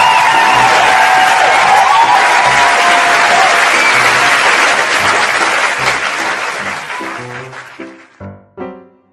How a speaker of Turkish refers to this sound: Herkes çığlıklar atarak Edo'yu alkışladı